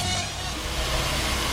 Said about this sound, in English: There's construction next door at the makeout room. Sorry, that's what the noise is in the studio.